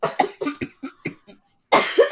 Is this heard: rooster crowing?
no